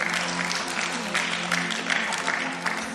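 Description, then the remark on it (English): An audience at a church gathering claps steadily for about three seconds after hearing that youths on a short mission trip to Uganda will have no Wi-Fi, a dense, even wash of many hands at moderate loudness with no pauses. “Wow, you're clapping for that.”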